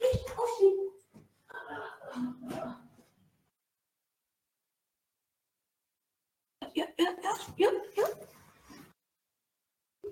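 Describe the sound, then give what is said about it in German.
A dog whimpers and gives short yips and barks in two fairly loud bursts, separated by a few seconds of silence. “Tja, ansonsten, jetzt ist Hund wach, aber Hund will nicht.”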